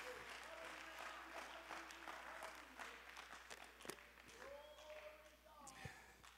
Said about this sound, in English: Oh, clap your hands to the Lord. Let's give him praise for a moment. Somebody praise him.